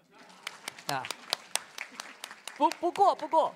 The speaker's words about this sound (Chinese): 此处应该有掌声，对不对？